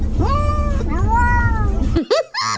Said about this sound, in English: this morning I discovered that my cat Romeo can say the word hello